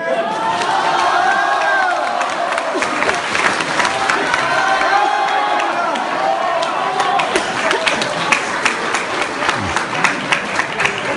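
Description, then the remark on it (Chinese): A large audience cheers and applauds loudly and steadily, a dense wash of clapping mixed with shouts and whoops that stays full and sustained throughout, with no one speaking over it. “谢谢大家，我希望能多说一点，因为确实观众的热情让我感动。”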